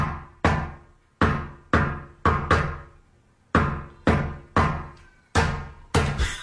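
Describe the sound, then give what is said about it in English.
A drummer knocks a rhythmic pattern of sharp knocks on a wooden door, each hit ringing briefly before the next, tapping out a recognizable song riff, clear with no talking. “What does it sound like when a drummer comes to your door?”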